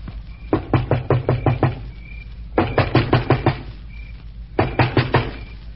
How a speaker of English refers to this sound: Stand where you are, and I'll go knock on the door.